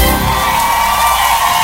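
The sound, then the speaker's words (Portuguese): Loud crowd cheering and clapping for a singer at a live music performance, a dense, steady roar of voices and applause filling the whole clip with no pauses, with a few whoops rising above the noise. “Cadê as palmas dele?”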